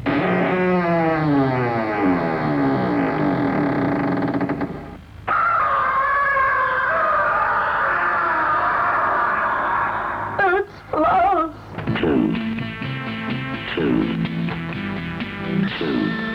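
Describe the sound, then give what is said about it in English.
An old, muffled radio station jingle plays: loud sliding, wavering tones give way to a sustained bright chord, then choppy stabs and brief gaps near the end. “About the quality on that first jingle, it's a bit old anyway.”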